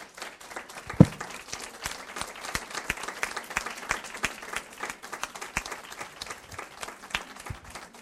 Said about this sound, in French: Voilà, alors merci et je crois qu'on peut applaudir vraiment très fort cette équipe.